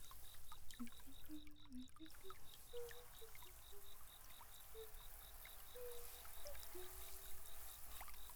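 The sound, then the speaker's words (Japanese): A steady, broad hiss of running water from a shower at a bath's washing area, spraying and pouring over someone continuously at an even level, with a faint rapid high-pitched ticking repeating underneath. “うん、洗い場にシャワーもあるし便利便利。”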